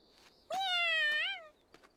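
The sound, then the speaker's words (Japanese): A single drawn-out cat meow, clear, lasting about a second with a slight rise and wobble in pitch near the end, then quiet. “じゃあね、猫ちゃん。”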